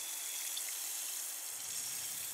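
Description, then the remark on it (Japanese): A steady, soft fizzing hiss of cleanser bubbles, bright and airy, with tiny crackling pops scattered through it and no voices. “シュワシュワと弾ける音、なんだか現実から離れたような感覚になります。”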